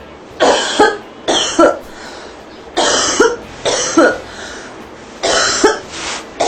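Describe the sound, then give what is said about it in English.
A series of loud coughs comes in clustered bursts, roughly six harsh hacks spaced unevenly with brief pauses between, with no talking. “All the coughs kind of sound the same.”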